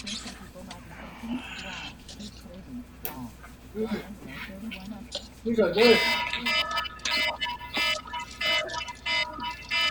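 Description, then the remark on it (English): A mobile phone rings partway through, a bright, steady electronic tone with high harmonics that repeats in short bursts over people talking. “That's my phone.”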